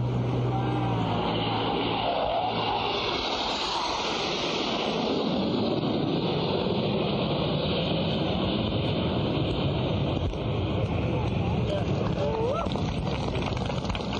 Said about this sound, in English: This event will officially open the Bong Heritage Center to the public. Here's the flyover.